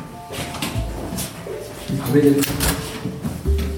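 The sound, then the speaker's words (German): Mechanical typewriter keys clack in a few scattered bursts with a metallic carriage rattle as symbols are typed in, while people talk over the clatter. “Lass das doch mal in die Schreibmaschine eingeben.”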